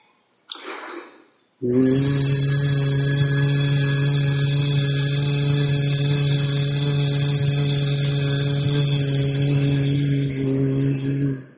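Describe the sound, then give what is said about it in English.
A person sustains one long, loud buzzing hiss, a drawn-out voiced S like a steady "zzz", held evenly for about ten seconds after a brief intake of breath, starting at a higher tone and fading off, as a sound exercise for grief and the lungs. “And the sound, now this sound is going to be more like a buzzing sound, even though it is these S's, and it's for the lungs.”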